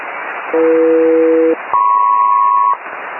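SELCAL selective calling tones over hissy, band-limited HF radio: two steady one-second dual-tone bursts separated by a brief pause, the second pitched noticeably higher than the first; a SELCAL check sent by San Francisco Radio to Air Force One, code Alpha Echo Mike Papa.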